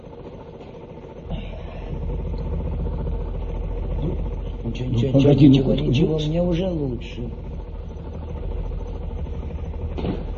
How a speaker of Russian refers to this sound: трактор ЧТЗ в вашем распоряжении. Можете использовать сколько хотите и для чего хотите. И скалу вам уберет. И камень перебросит.